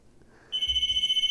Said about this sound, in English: Guys, the red phone's ringing. Oh. Who could it be? Who can it be?